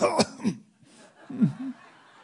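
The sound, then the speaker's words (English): A few throaty coughs and a rough throat clearing in two bursts, with a short quiet gap between them and no speech. “I started coughing already.”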